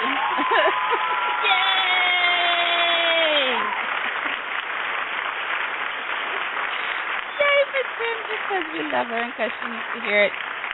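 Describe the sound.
Steady, dense applause fills the whole stretch, with a loud drawn-out whoop and cheering voices rising over it at the start, then scattered shouts and yells near the end.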